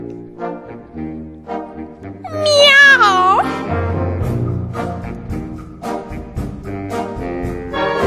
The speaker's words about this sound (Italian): Miau! Miau! Miau!